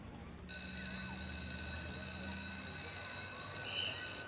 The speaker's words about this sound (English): 3 p.m. The bell rings.